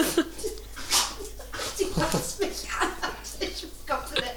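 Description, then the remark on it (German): A dog snorts and snuffles in a quick series of wet, breathy bursts, fairly loud, repeating in an uneven rhythm for several seconds. “wird gerotzt und nicht gespuckt.”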